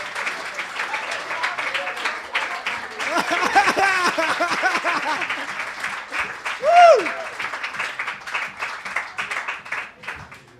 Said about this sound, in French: Alors applaudissez parce qu'il est là. Applaudissez.